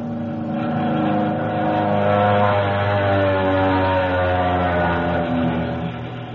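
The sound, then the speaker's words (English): Russian aircraft engines fly overhead over Poland, dropping leaflets, in a loud, steady droning hum with layered tones that swell slightly and shift in pitch across the whole stretch. No one speaks. “The planes were neither German nor Polish, but Russian.”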